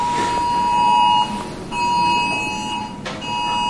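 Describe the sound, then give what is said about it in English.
A harsh, buzzing Amber Alert emergency tone from a phone sounds in loud repeated bursts with brief gaps, a steady electronic blare pulsing on and off. “Got an Amber Alert there.”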